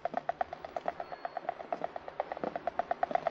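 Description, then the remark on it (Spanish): Tiny water vessels bursting inside tree wood, the vessels that carry water between roots and leaves, make a rapid, steady stream of faint, sharp clicks, roughly nine per second, each a brief dry pop with a slight ringing tone, with no voices and no one striking anything. “esas partecitas más chiquititas que tiene la madera, que llevan el agua”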